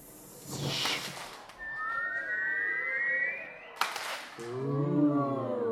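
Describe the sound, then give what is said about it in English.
A crowd performs a 'fireworks of applause', imitating a firework on the cue 'light the fuse': a rush of noise, then a long rising whistle for a few seconds, a sharp burst of sound, and a chorus of voices sliding down in an ooh. “Light the fuse, fireworks of applause.”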